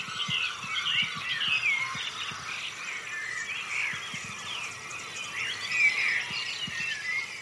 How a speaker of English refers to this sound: prove to me that I can hear Grasshopper Warbler through this thing